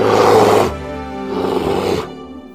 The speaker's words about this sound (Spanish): El soldado se volvió y dio un enorme oso que iba a lanzarse sobre él, dando horribles gruñidos.